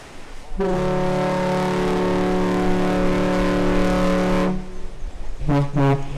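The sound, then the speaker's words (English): The deep ship horn of a car ferry making its round trip between Manitowoc and Ludington, Michigan, sounds twice as a salute: a long, loud, steady blast lasting several seconds, then a brief pause and a shorter second toot, with a low rumble underneath. “That's two toots like that, that's a salute to us.”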